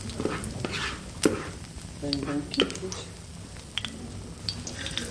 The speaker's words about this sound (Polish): I smażymy racuszki na wolnym ogniu, żeby się nie popaliły. Zostawiłyśmy specjalnie troszeczkę do usmażenia na bieżąco.